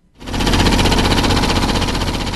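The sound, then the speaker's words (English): After a brief moment of quiet, construction machinery in Beijing, China, being built up for the 2008 Summer Olympics, starts up with a loud, steady, rapid mechanical hammering that rattles on without pause, harsh and noisy, with no voices. “The sounds of construction echo across Beijing as China prepares to host the 2008 Summer Olympics.”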